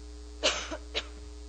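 A person with allergies, with a fan switched on, coughs and clears their throat: a sharp burst, a small catch, then one shorter cough, against a low steady hum, with no talking.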